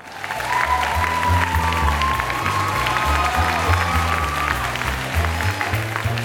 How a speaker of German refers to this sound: Applaus.